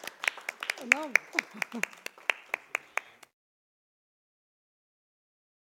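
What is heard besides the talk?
audience applause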